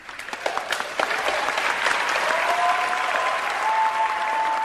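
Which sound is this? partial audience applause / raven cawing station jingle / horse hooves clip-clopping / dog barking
partial audience applause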